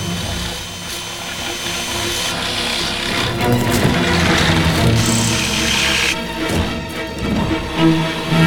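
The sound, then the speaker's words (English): A power drill grinds steadily, drilling holes into the ceiling of every room, its loud motor droning and rattling with small surges and dips in pitch for several seconds, with no voices. “David is drilling holes in the ceiling in every room.”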